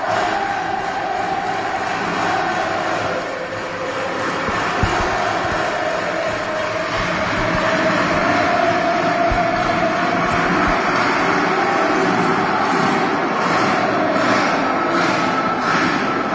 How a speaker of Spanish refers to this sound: esa grabación, ese recuerdo de los aficionados, porque aunque las gradas estén vacías, nosotros estamos escuchando vuestros ánimos y vuestros gritos